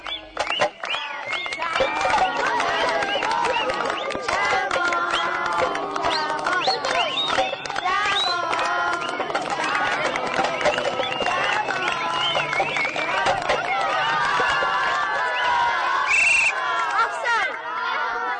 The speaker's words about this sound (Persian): کنار کیسه یه قوطی فلزی هست، با لگد قوطی رو پرت میکنه. اینجا یه زمین خاکیه که 10-15 پسر بچه نوجوان دارن فوتبال بازی میکنن با همون قوطی فلزی. پسری داره سوت میزنه.